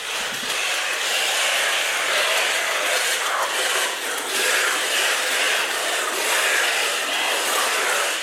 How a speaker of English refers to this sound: Whoa, that just blew me away. So that's probably several hundred birds all flying around at once inside a cave. And as someone else described it, when you're in the cave, it sounds like you're standing or flying along in an open-topped airplane.